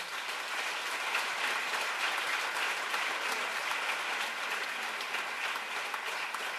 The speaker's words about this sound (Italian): Intanto noi vi abbracciamo e vi uniamo tutti in un grande applauso